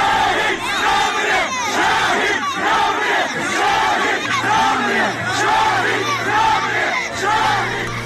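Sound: crowd chanting slogans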